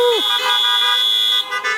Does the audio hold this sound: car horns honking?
yes